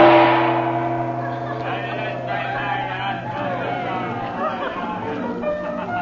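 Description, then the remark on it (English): A busy crowd murmurs steadily at night in the Cafe of the Desert Moon, a tourist meeting place in the native quarter of Cairo, many overlapping voices blending into an even hubbub. A ringing, bell-like tone sounds at the start and slowly fades beneath the chatter. “Now, soon after their arrival in Cairo, Chandler has brought the Regents to the Cafe of the Desert Moon in the native quarter, a favorite meeting place of tourists.”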